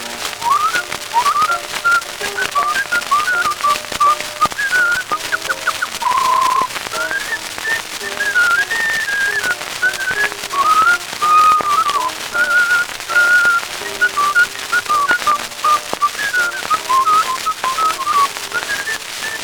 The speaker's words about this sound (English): Say, I never heard him talk or anybody in my life, but he's happy when he whistles this tune.